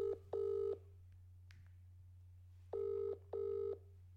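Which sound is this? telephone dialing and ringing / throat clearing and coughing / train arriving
telephone dialing and ringing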